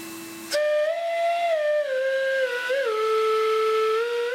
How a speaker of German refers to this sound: Auch aus einem uralten Staubsauger stellt er ein Instrument her. Eine alte Millette ist das. Normaler Staubsauger.